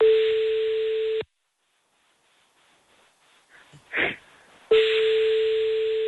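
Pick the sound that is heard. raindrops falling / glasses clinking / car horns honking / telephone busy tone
telephone busy tone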